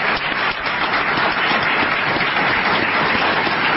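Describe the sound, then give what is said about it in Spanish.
An audience at a streaming channel show applauds itself on request, a dense wash of many hands clapping steadily at an even, loud level for several seconds with no voices standing out. “¿Se pueden aplaudir ustedes mismos?”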